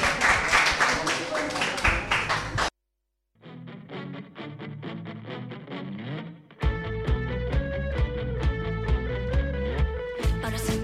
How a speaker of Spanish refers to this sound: Un aplauso para